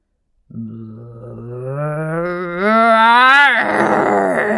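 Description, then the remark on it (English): A voice performs a troll's fearsome roar from under a wooden bridge in a telling of The Three Billy Goats Gruff: a loud, sustained growling moan of about four seconds that climbs steadily in pitch, then breaks into a rougher, raspier snarl at the end. “Suddenly there was a fearsome roar.”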